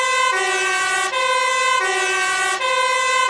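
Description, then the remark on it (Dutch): A loud fire engine siren blares, its harsh tone steady with brief dips and changes in pitch roughly every second, with no voices over it. “Dat is de brandweer, inderdaad.”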